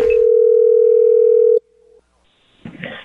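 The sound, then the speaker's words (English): A loud, steady electronic telephone tone sounds for about a second and a half as a call to a jewelry store goes through, then cuts off abruptly, followed by a short burst of line noise. “So because he got dumped, he's calling the jewelry store back to try to return or modify what he got her.”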